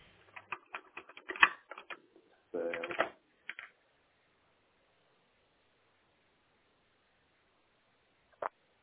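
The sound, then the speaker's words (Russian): Plastic fumbling and rustling handling noises, then several seconds of quiet before a single sharp click as an internet cable is plugged back into a powered-on router's port, fairly loud. “И обратно до щелчка давайте.”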